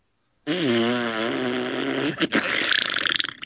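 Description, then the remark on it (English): A loud, drawn-out fart with a low, buzzy, wobbling tone for about two seconds, then breaking into a sputtering, crackly rattle that carries on until it cuts off. “Ooh, that was a good one. Sound like you shit yourself.”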